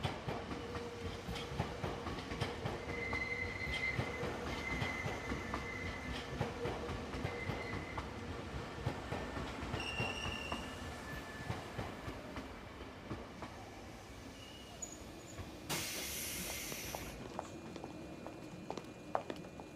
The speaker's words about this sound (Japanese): 3番線、電車が到着します。黄色い線までお下がりください。